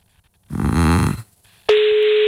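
A telephone call placed during a radio broadcast to wake a man: the line tone sounds over the receiver, a short low, warbling buzz, a brief pause, then a loud, steady electronic tone that starts abruptly and holds. Nobody answers.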